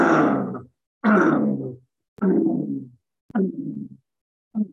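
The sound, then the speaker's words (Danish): Five low, rumbling grunts from a human voice, a humming sound made during a gentle 'crocodile breathing' exercise while stepping heavily from one foot to the other; each a growly hum that fades out, separated by short pauses and growing shorter toward the end, with the last one clipped. “Og så om et øjeblik, så sætter jeg sådan en brummelyd på, som lyder sådan lidt i retning af...”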